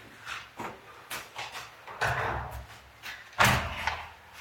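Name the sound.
door being opened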